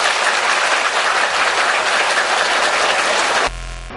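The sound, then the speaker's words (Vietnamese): Dense, steady applause from a large crowd at a Buddhist gathering, welcoming a guest preacher, runs loud without a break, then cuts off abruptly near the end into a low hum. “Chúng tôi xin trân trọng giới thiệu đến quý vị, đề nghị quý vị cho tràng pháo tay thật dài.”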